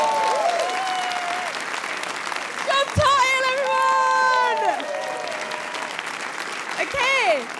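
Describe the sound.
Steady, loud audience applause fills the whole stretch, a dense crackle of many clapping hands, with a voice rising over it and a few cheers or whoops breaking through.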